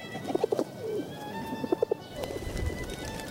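Doves coo in short, low, soft notes that come in small clusters of two or three, with a faint steady hum and light background noise underneath. No one speaks.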